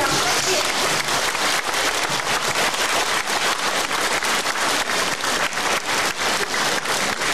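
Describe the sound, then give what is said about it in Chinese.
An audience applauds warmly for the station director (Lu Taizhang), a dense wash of many hands clapping at a steady, loud level that holds for about seven seconds without pause or voices. “大家知道台长为我们看图腾需要耗费很多的气场，所以请大家给予台长热烈掌声。”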